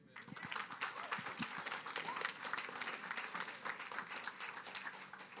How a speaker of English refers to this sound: Please clap for my wife again. Amazing.